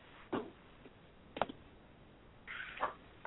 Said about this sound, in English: My cats are trying to tear down the door. You can hear the banging.